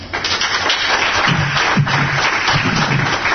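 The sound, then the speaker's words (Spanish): An audience applauds steadily, a dense wash of many hands clapping at once, fairly loud and sustained throughout, with a few faint voices murmuring beneath it. “Un fuerte aplauso.”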